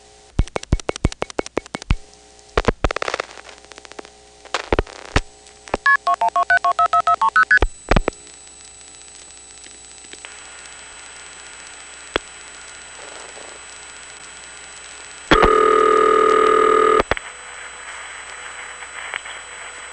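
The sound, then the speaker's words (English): Rapid bursts of telephone switching tones from an automatic switching system during the last part of a phone call: quick pulses and dial clicks, a run of stepped multi-frequency beeps, then a steady hum and a loud sustained two-tone signal near the end, with no voices. “But you know, until I took the time to listen to it that way, I just assumed that it was a regular old Stroger automatic toll ticketing system by AE or something like that.”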